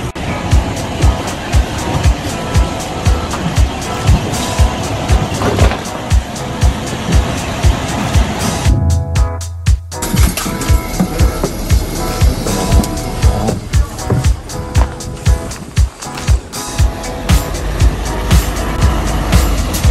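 A bus drives along a snowy road in Memanbetsu, its engine and tyres making a steady, loud rumble with frequent rattles and thumps, easing briefly midway before the noise returns.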